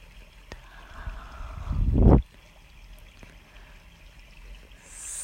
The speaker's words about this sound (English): And you feel as if you were floating. floating in a large and warm river. Warm water flowing down.